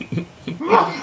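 sneeze

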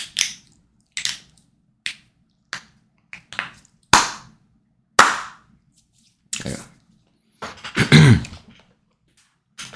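hand clapping

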